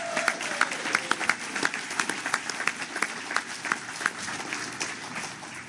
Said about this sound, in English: I think we should give her another round of applause. She did a great job.